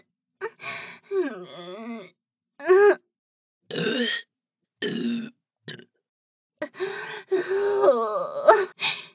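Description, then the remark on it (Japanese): A series of loud, croaky burps after drinking urine, about eight voiced bursts of varying length separated by brief pauses, with a final cluster of several in quick succession. “小便ゲップすっごー。”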